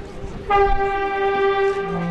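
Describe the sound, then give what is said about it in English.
A forest fire warning alarm blares in the rain to mark the last minute before the planned demolition of a mill's 300-foot-tall stacks near the White Mountains and Androscoggin River: a loud, steady, buzzy horn-like tone that starts abruptly and holds one pitch, sliding lower at the very end over a low background rumble. “An alarm, usually meant to warn the city of forest fires, went off to mark the last minute before the planned detonation of the 300-foot-tall stacks.”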